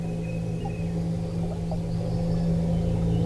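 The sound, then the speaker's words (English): A steady, low underwater rumble and hum carries throughout, recorded in a stream in Hranice, Czech Republic. A few faint, thin high chirps and whistles like birdsong drift over it. No one speaks. “A mix of underwater sounds and bird sounds.”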